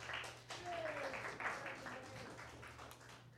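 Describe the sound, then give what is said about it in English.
An audience applauds Annie Gosfield after she is introduced, a steady, dense patter of many hands that carries through the whole moment at moderate loudness, over a low steady hum, with a faint brief whistle-like tone near the start. “I told you what would happen if you got more applause than me.”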